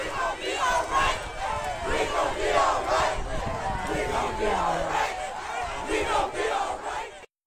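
A large crowd of protesters, mostly African American students at Cleveland State University in 2015, marching past police cars and barricades and chanting in unison, many voices rising and falling in a steady rhythmic cadence. The chant stays loud and continuous throughout, then cuts off abruptly at the end.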